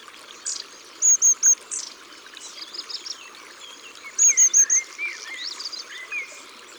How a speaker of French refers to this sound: Une bande de mésanges à longue queue approche. C'est si si si si si si si. Ce sont leurs cris de contact quand elles volettent dans les arbres en famille.